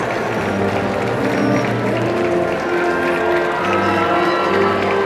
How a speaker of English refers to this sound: There are cheers and there are claps and there are shouts of joy and relief and all and anything positive is happening in this moment in time.